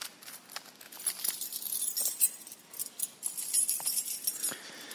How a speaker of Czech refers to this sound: Ano, jsou to klíče. A klíče patří vždycky k jednomu místu.